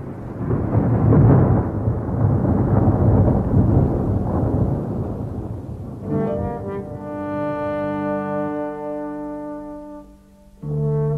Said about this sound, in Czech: Tu noc ty hromy nad podolským panstvím jakoby se splašily. Jak by kdo v kopcích střílel z metálových děl. Sotva se jeden stišil, druhý zaburácel, až se třásla zem.